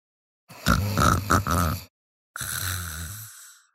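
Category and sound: human body sound, snoring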